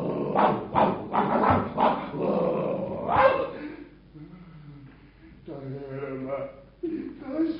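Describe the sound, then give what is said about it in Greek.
Several dogs bark in a rapid, loud flurry, then the barking gives way to lower, drawn-out growls and snarls that continue until the end. “Θα πρέπει να είχαμε αμολύσει τα σκυλιά για να τον διώξουν.”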